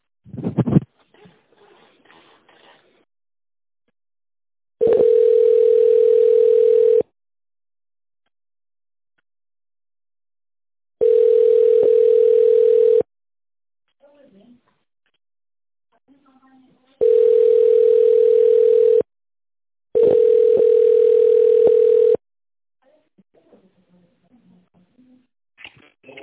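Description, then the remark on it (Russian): A telephone ringback tone, heard while waiting for the secretary to answer after a company's phone menu, repeats four times, each steady mid-pitched beep lasting about two seconds and separated by longer pauses, with faint scattered noises in between. “Для соединения с отделом продаж нажмите 1, с отделом сервиса – 2, отделом лизинга – 3, бухгалтерией – 4, отделом закупок – 5 или дождитесь ответа секретаря.”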